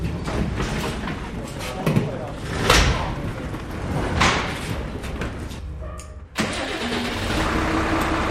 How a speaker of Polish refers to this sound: Za chwilę samochód zostanie uruchomiony. Tak, wyjedziemy przed garaż.